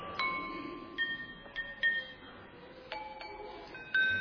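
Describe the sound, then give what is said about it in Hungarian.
Empty drinking glasses are tapped one after another, giving about eight bright ringing tones at different pitches, each lingering briefly, in an uneven melodic sequence over a soft background hiss. “Hát üres poharak.”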